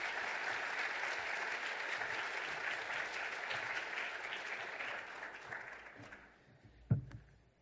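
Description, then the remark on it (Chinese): Sustained applause from a church audience welcoming a visiting pastor, a dense crackle of many hands clapping steadily for about six seconds before thinning out, with a single louder thump near the end. “让我哋用诚不热烈嘅掌声欢迎”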